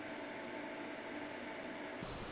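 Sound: air conditioner running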